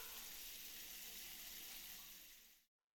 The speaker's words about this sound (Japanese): お湯加減はこのくらいかな。それでは、お湯かけますよ。